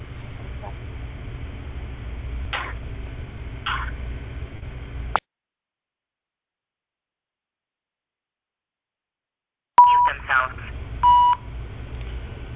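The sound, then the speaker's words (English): Short electronic phone keypad beeps sound over a humming phone line as the phone is muted, then the line drops into dead silence for several seconds before a couple more brief tones return. “I'm going to mute the phone.”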